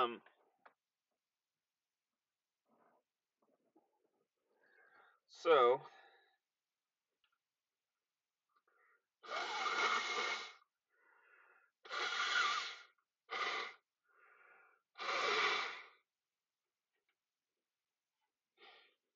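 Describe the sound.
A single spoken word, then a few seconds later four loud, breathy bursts of someone blowing their nose, each about a second long with short pauses between.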